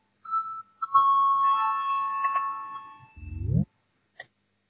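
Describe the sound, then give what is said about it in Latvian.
A parliamentary voting bell sounds to call a vote on a faction's proposal: a steady electronic ringing tone holds for about three seconds, swells into a low rising buzz, then cuts off abruptly, followed by a faint click. “Lūdzu, zvanu, balsosim par pirmo Saskaņas frakcijas priekšlikumu.”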